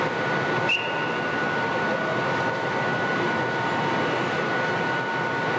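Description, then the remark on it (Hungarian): An S30 passenger train on the Budapest–Székesfehérvár line in Hungary rolls along the rails with a steady rumble and a thin high whine running through it, plus one sharp click near the start. No voices. “Ez az S30-as járat. Az S azt jelenti, hogy személyvonat, a szám pedig azt jelzi, melyik vonalon közlekedik.”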